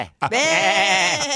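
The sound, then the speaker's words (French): A person's voice imitates a sheep, giving one sustained, wavering bleat that lasts over a second, loud, after a brief initial sound. “mais j'aimerais ça que tu me fasses ton son de mouton.”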